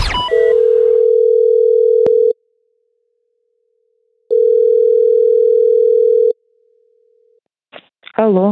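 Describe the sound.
A steady, loud telephone ringback tone sounds while a number is being dialed, in two long pulses separated by a pause, then cuts off as a voice answers briefly at the end.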